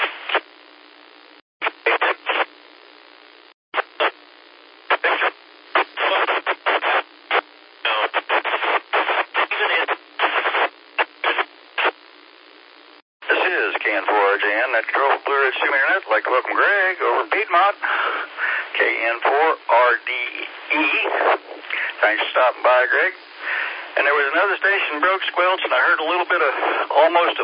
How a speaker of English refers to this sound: Not copy you at all. If you can boost your power, or if you're on handheld, move around, find your X, and try again, I'd love to check in.